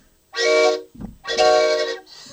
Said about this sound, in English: This is not a sound effect on the radio. You know, it's not like out of my sound mixer here. This is a train whistle.